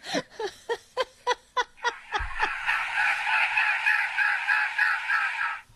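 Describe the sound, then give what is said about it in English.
A bird gives a quick run of about eight sharp, nasal honks, then breaks into a long, harsh, wavering honking wail. The calls are loud, with no one talking. “So, for such a beautiful bird, it makes a very weird sound.”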